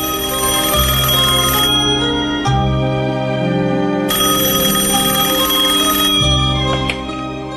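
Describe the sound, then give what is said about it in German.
A telephone rings loudly and continuously in a bright, electronic melodic tone, shifting pitch every couple of seconds for several phrases, with no voices. “Aber die Romanze will nicht so richtig ans Laufen kommen, obwohl die Italiener sich doch so anstrengen und alle Register ziehen und die Telefone zwischen beiden Ländern heiß laufen.”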